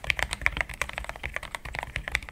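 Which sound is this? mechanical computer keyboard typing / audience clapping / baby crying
mechanical computer keyboard typing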